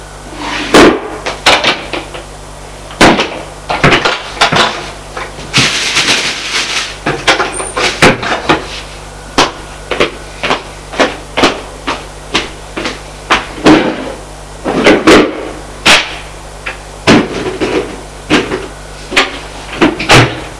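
A wooden desk drawer slides and rattles open with scraping bursts, followed by a long series of sharp knocks and clacks at an uneven rhythm, fairly loud, with no voices.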